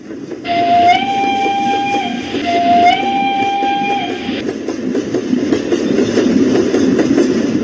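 A train runs with failing brakes: a steady rattling rumble, broken early by two long, high, shrill tones one after the other, before the rumbling continues alone.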